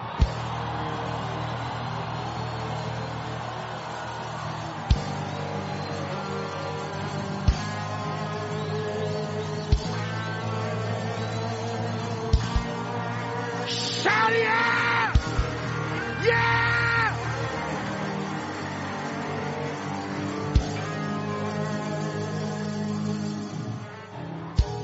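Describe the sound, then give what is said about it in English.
A large crowd yells, screams and whoops together in a sustained, loud roar over a steady low hum, with brief sharper bursts of shouting rising out of the din. “Now open up your mouth and scream.”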